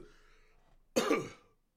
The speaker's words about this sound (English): Sorry, the cough is coming up again.